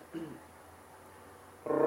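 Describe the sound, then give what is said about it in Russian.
A voice rolls a growling R trill: a brief low buzz near the start, a quiet pause, then a louder trill that cuts in right at the end. “Трель такая.”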